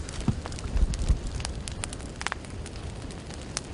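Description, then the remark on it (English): A man-made forest fire in the Amazon region crackles steadily up close, with irregular sharp pops and snaps over a low rumbling roar, no voices. “As you get closer, you just hear it crackling away.”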